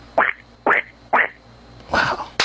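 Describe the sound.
A male caller imitates a duck with his voice alone, without a duck call, giving three short nasal quacks in a steady rhythm, then a longer raspy quack and a sharp final burst, loud, with no talking.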